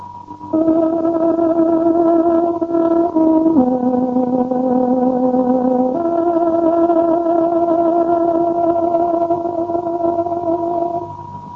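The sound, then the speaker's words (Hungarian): A tárogató plays the exact hourly time signal marking 16:00 on Radio Free Europe's Voice of Free Hungary, a slow signal of long, sustained reedy notes, stepping down in pitch twice before settling on a steady held tone for the rest, loud and alone with no talking. “Kedves hallgatóink, pontos időjelzést adunk. Tárogatónk 16 órát jelez.”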